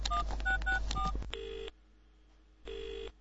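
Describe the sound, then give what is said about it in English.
A quick run of electronic keypad tones as a phone number is punched in from an office to call someone at his office, followed by two long, steady ringing tones with a pause between them, clear with no voices. “I'll call him at his office from my office.”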